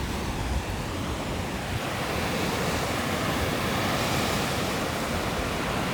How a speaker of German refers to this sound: So klingen die Wellen in Zinnowitz auf Usedom. Zumindest am heutigen Tag. Tag der Aufnahme ist der 21. Juni, Sommeranfang. Und tatsächlich ist auch Sommerwetter.